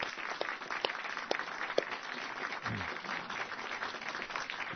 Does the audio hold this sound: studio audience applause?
yes